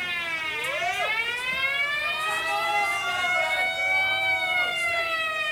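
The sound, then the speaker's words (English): Several wailing fire engine sirens rise and fall together, overlapping as the fire engines pass, loud and continuous with a slight pitch sweep, over a low background rumble. “Oh! Here come the fire engines.”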